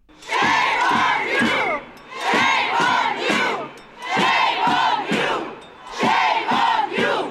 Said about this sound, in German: Das sind Aufnahmen vom Dezember. Hunderte Menschen demonstrierten auf dem Bundesplatz.